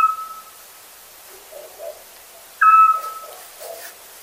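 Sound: scops owl call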